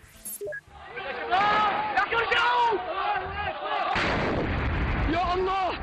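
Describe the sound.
A crowd of many voices at a protest in the city of Hama, Syria, shouts and chants loudly, with harmonic wavering cries, while heavy booming blasts of a large explosion and rumbling bursts break in underneath, especially toward the middle and end.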